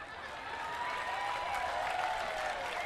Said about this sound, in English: Yeah, you're clapping.